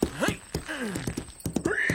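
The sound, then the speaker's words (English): A horse whinnies with rising and falling cries while hooves clip-clop in quick, irregular sharp knocks, fairly loud over about two seconds, as a rider gets on it for a comic retelling of Paul Revere's midnight ride. “Get on the horse,”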